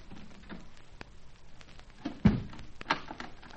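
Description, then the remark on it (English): A door shuts with a solid thud, followed a moment later by a sharp metallic click like a lock turning, both fairly loud against a quiet, faintly rustling background. “Door locked in the lot.”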